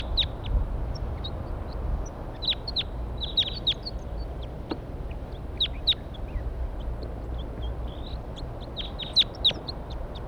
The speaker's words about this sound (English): Here they come. Now they're perched in the pine tree right above the where we're going to set up a net here. Stop. Wild birds.